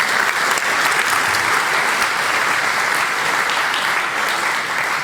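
Steady, sustained applause from an audience fills the whole stretch, a dense wash of clapping hands at even loudness with no voices rising above it.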